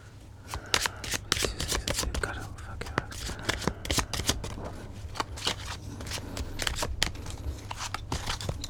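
A deck of cards being shuffled over and over for a card reading on whether 2026 will be a good year to buy stocks, a steady run of crisp, papery riffles and snapping flutters with sharp clicks throughout, over a low constant hum.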